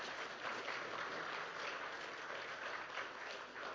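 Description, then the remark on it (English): A church audience claps hands in praise to the Lord during worship, a dense, steady wash of applause from many people that holds at an even level throughout, with no voices standing out. “Come on, bless the Lord with a hand clap of praise.”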